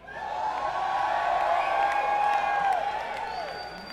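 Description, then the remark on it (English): An audience claps steadily for about four seconds, a dense wash of applause mixed with crowd cheering and a few sustained whoops, holding a fairly even loudness before easing slightly at the end. “Because I really had nothing to add and I wanted you to clap.”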